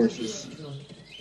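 horse neighing

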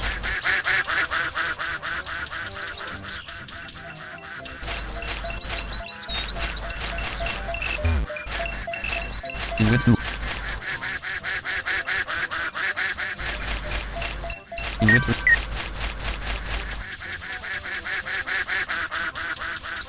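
ducks quacking

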